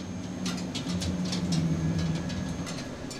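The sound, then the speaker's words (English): A steady low mechanical rumble as light rail train cars are worked on at their maintenance hub in Phoenix, with quick hissing, clicking bursts recurring about twice a second on top, continuous. “working on light rail train cars at their hub in Phoenix.”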